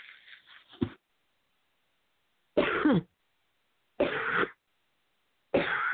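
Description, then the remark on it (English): A loud fit of coughing with three or four harsh, separate bursts spaced by short silences, each cough rough and forceful with no talking in between. “I suddenly got a cough out of nowhere.”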